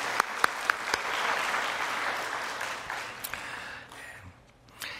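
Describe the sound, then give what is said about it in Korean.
A church audience applauds steadily in welcome of a visiting missionary couple, many hands clapping in a dense, crackling wash, with a few sharper individual claps standing out before the applause thins and fades toward the end. “우리 환영의 박수 보내드리겠습니다.”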